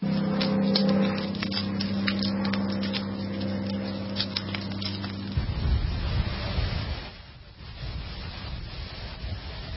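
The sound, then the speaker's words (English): A wildfire in Texas burning with a roar of wind, scattered sharp crackles and pops over a steady low rumble, with water from fire hoses, then a gustier, rushing stretch of noise toward the end. No one speaks. “This is the wildfires in Texas just burning like nobody's business. This is what it sounds like.”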